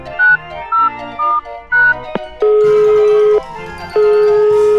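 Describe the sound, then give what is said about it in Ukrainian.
A phone call being placed by the hedgehog to the bear in a children's forest tale: four short electronic beeps at shifting pitches, a couple of sharp clicks, then two long, steady ringback tones. No voices. “Хоча ні, спочатку зателефоную ведмедику.”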